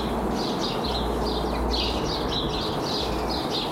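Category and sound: bird, warbler song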